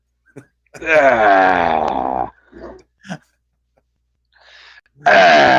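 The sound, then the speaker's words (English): A man's voice imitates the scream of the Predator from the film Predator when it gets shot: a loud, drawn-out yell whose pitch slides downward, then a few short grunts and breaths, and a second loud cry cut off at the end. “That's what it sounded like whenever he would have been like yelling whenever he got shot. He screamed.”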